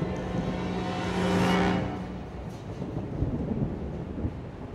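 Steady rain hisses throughout while a deep roll of thunder swells and fades in the first two seconds, followed by scattered droplets and low rumbling. No one speaks.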